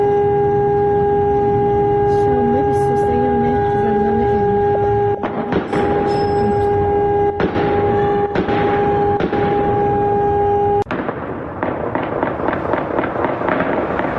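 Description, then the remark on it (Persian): Several sharp, loud explosions ring out at irregular intervals over a steady alarm-like tone, then a rapid, crackling burst of repeated gunfire follows near the end, during a large fire at Evin Prison on a Saturday evening. No one speaks. “شامگاه شنبه ویدیوهایی در شبکه‌های اجتماعی منتشر شد که نشان می‌داد زندان اوین دوچار آتش سوزی گسترده‌ای شده و همچنین در این ویدیوها صدای چندین انفجار و تیراندازی‌های پیاپی نیز شنیده می‌شد.”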